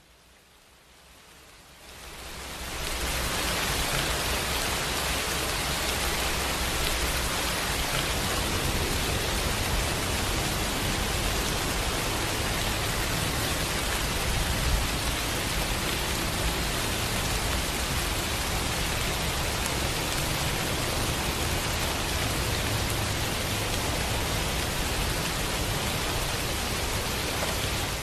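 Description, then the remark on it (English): An MP3 recording of steady, dense rainfall fades in after a couple of seconds and then pours on evenly, a hissing wash of countless drops with no voices and no breaks. “if you wouldn't mind playing just a minute of that MP3 for rain coming down.”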